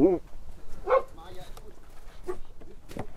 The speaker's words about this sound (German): Schluss. Hund ist friedlich. Die ist harmlos.